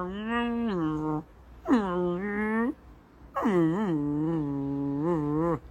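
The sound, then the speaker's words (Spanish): A person's voice imitates the friendly, affectionate grumbling of a dog kept in its carrier, with three drawn-out, wavering moans separated by short pauses, fairly loud, with no words spoken. “Por lo tanto, lo que he hecho es no sacarle del transportín y mantenerle en el transportín con su refunfuñeo amable y amoroso de”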